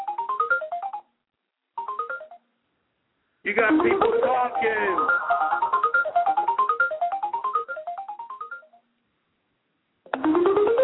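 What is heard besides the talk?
cell phone ringtone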